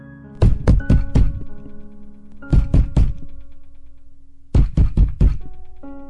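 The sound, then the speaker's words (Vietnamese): A mother's heavy pounding on her daughter's bedroom door in the morning comes in three bursts of four hard, booming thuds each, loud, with short pauses between bursts over a faint steady hum. “Thay vào cái giọng quát mắng của mẹ là những tiếng đập cửa rầm rầm.”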